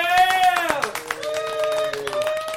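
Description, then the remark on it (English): A few people clap rapidly and unevenly while voices whoop and cheer over the top, their pitch sliding up and down, fairly loud. “Applause!”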